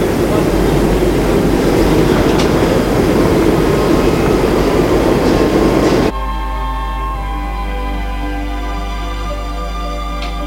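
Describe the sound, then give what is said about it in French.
A subway train roars loudly for about six seconds on a metro platform, then the noise cuts abruptly to a quieter, steady electric hum with a faint tonal whine. “Il retourne sur les quais du métro.”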